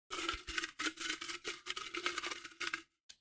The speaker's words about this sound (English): Crisp sound of that. I don't even know if that picked the up. The most, like, flourished opening of a piece of paper. It probably didn't even pick up, so it probably just nobody's gonna get it.